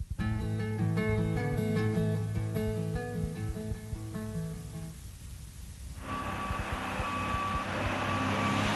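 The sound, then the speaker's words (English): A heavy cement truck's engine rumbles and whines, then a louder hiss of machinery sets in as a steady reversing alarm beeps repeatedly as the truck arrives with cement at a construction site. “The truck drivers are coming with the cement.”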